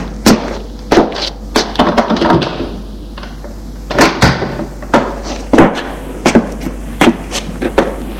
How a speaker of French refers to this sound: Elle les fait rentrer et ferme la porte.